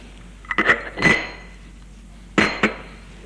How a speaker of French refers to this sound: Elle hausse ses épaules, elle boit une gorgée de son thé et pose sa tasse.